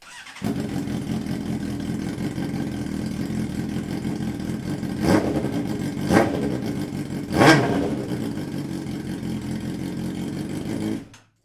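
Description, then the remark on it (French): A motorcycle engine idles with a steady low rumble, then revs three times in short bursts, each throttle blip rising sharply before settling back to idle; fairly loud, no voices. “Alors ce bruit, il me donne vraiment envie de partir en balade là maintenant et d'aller me faire un petit road trip, par exemple en Ardèche, et de me faire quelques bons lacets, comme on dit.”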